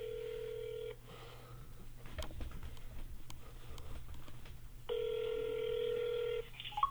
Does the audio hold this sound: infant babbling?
no